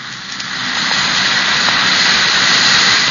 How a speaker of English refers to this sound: That's the Alka-Seltzer fizz. It's the lively, cheery, sparkling fizz that you know so well.